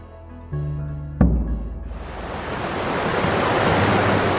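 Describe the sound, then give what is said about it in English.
Water thunders through a river dam at a large hydroelectric power station in Latin America, a low droning hum giving way after a thud to a broad, roaring rush that swells and stays loud and steady. No one speaks. “The pounding of water of a river dam, one of more than 250 large hydroelectric power stations in Latin America.”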